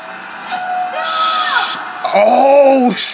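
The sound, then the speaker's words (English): Cars being driven out of a plane with engines revving hard, their whining pitch climbing and sliding, growing louder toward the end before cutting off abruptly. “You ain't new to driving cars out of planes.”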